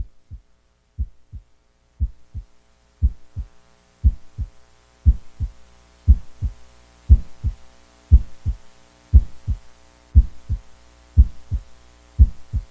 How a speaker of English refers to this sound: Only hear one heartbeat